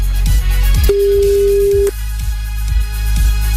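A telephone rings with a single steady electronic tone lasting about a second, loud, over a pulsing rhythmic music bed with no voices, during a listener call-in game on the radio station Énergie.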